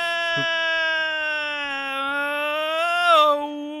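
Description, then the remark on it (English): A person yells one long, loud, sustained vocal tone as a warm-up, holding a steady pitch before briefly swooping up and back down near the end. “This is my vocal warm up.”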